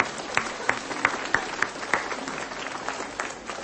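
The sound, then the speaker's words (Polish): An audience applauds steadily, a dense wash of clapping with a few sharper, louder claps standing out in a loose rhythm, holding at a moderate level throughout without any talking, at the Great Tuchów Indulgence (Wielki Odpust Tuchowski) 2015 in Tuchów, on the children's day, in fine weather, as children's rosary circles gather. “którą bardzo serdecznie witam i pozdrawiam. Brawa!”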